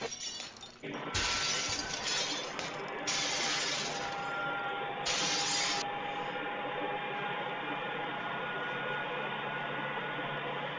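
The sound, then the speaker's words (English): A microwave thrown down from a window crashes and shatters, with several loud bursts of breaking and clattering debris followed by a steady wash of rattling noise and faint background voices. “Yeah, it just shattered.”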